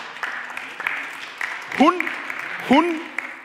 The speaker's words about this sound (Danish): Ja, I må gerne klappe.